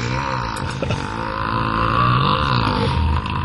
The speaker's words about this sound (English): Somebody burped.